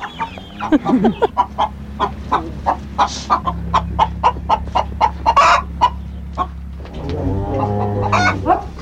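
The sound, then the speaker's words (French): A run of short, repeated clucks from several chickens on a farm, steady, with a low continuous hum underneath and a brief rooster-like call near the start. “Les vaches laitières et quelques poulets.”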